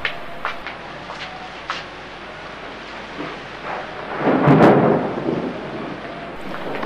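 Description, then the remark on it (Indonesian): Heavy rain pours steadily while thunder rumbles, swelling into a deep, loud roll midway through before easing back into the constant downpour. No one speaks. “Hujan belum juga reda, bahkan tambah semakin deras.”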